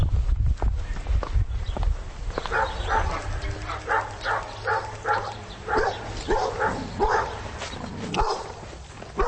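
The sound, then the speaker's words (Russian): Dogs bark repeatedly in a steady series of sharp barks on the outskirts of Warsaw, Poland, over a low rumbling background with some footstep-like shuffling early on. “Поют птицы и лают псы.”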